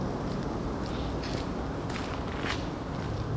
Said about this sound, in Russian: Они ходят дома босиком, и их шаги не проявляются, но рядом с домом чей-то быстрый шаг.